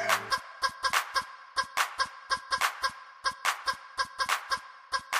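Chickens cluck in a steady run of short, sharp calls, fairly loud, with a few brief pauses between bursts and no talking over them.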